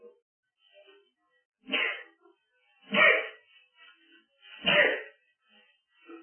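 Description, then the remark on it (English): Three sharp sneezes burst out in quick succession, each a loud, breathy blast spaced about a second apart, with quiet pauses between and no talking. “See if you can sneeze 7 times.”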